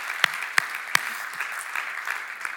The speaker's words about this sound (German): Ist dieser Text nicht ein Applaus wert?